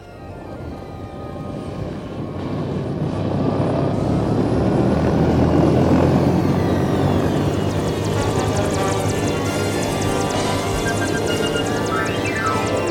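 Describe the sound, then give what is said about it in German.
A helicopter's rotor and engine roar steadily and loudly, swelling in volume, with a dense whining drone continuing throughout and no voices. “Jetzt eilen Sie wieder zum Hubschrauber.”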